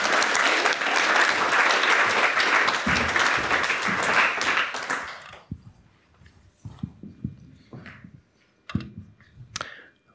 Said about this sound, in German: Du leitest unsere Kids Church. Ein Applaus für dich. Mega cool.